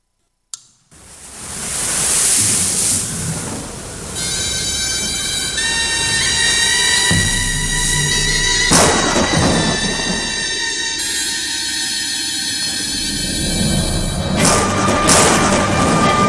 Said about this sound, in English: And so just to kind of give you a bit of flavor, we're going to watch just a little clip here of what perhaps that was like when that storm hit the sea.